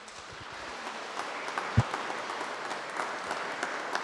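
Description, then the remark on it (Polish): Steady applause from an audience, a dense wash of many hands clapping at an even, moderate level, with one sharper clap standing out briefly. “O, brawo.”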